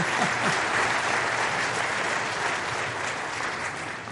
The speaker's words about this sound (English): Let's have applause for the hero of the faith.